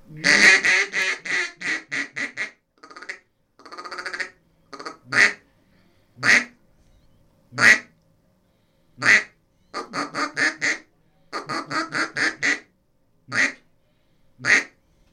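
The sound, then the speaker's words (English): A raspy duck call, the hunter's everyday working call, blown in a rapid run of quacks, then slower single honking notes spaced out, then more quick bursts; loud, buzzy and coarse, with no voices. “And then this is my working call. This is the one I carry with me all the time. It's got a little bit of a rasp to it.”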